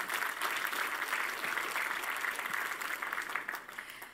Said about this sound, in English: 24 terabytes of memory. Can I get an applause? That's pretty awesome.